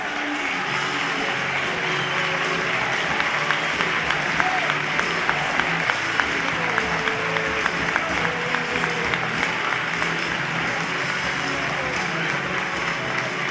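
A stadium crowd of Lucena football fans applauds their team at the final whistle of a cup tie against Leganés, a dense wash of clapping with scattered cheers and shouts rising over it, loud and continuous throughout without pause.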